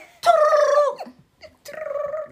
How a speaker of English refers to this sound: Fart.